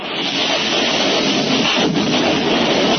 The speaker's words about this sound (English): The sounds of jet fighters slamming their rockets into Chile's presidential palace on September 11, 1973, ushered one of the most brutal dictatorships in the Western Hemisphere.